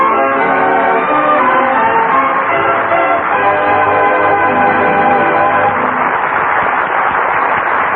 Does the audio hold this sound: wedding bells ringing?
yes